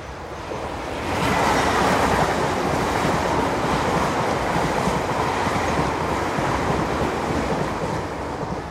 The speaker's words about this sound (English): About an 8-carriage unit, LNER. That's probably the London train.